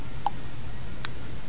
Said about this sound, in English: And the clock keeps ticking away.